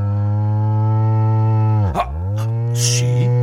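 A cow, the character doña Vaca, moos in one long, loud, low bellow, its droning pitch dipping sharply midway before swelling back and holding steady, with a few brief hissy noises near the end.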